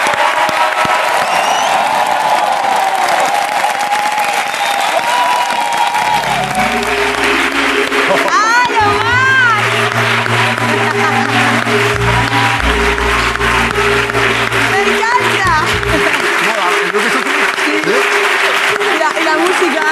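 A crowd applauds steadily and loudly for the whole stretch, with whoops and shrill cheers rising midway as low, droning music starts up underneath the clapping.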